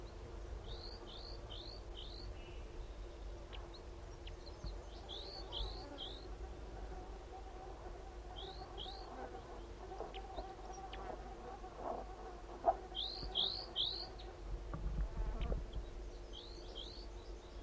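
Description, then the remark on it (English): Two crossbills, one a large race male, give quick clusters of sharp, high 'kip' calls, three or four notes at a time, repeated every few seconds over a steady low hum and faint insect buzz. No one speaks. “There are two crossbills here.”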